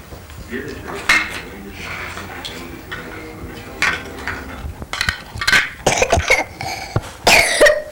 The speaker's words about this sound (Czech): Jesi prehlađen? Jesam. Jesi, kašljaš malo?